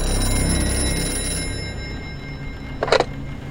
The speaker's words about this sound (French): Le téléphone sonne.